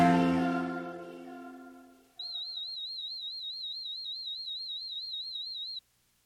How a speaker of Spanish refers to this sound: El reto del sonido perdido, que levante la mano el que escuche un pitido.